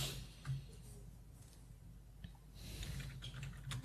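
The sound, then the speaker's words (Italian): Soft, quick keyboard clicks as someone types out a link by hand, tapping in an irregular rhythm, quiet, with a low steady hum underneath and no one speaking. “Dalla chat ci chiedevano il link così lo possono guardare in alta definizione, e non potendo copiare glielo scritto”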